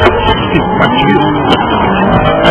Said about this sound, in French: Quel trafic, mais c'est pas possible.